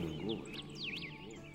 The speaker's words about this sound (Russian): И слышны голоса птиц.